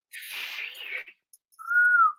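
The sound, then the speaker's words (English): A person blows a breathy, airy rush of air for about a second, pauses, then produces a short, clear whistled note that holds steady before fading. “I can't do two things, juggle or whistle. So whistle?”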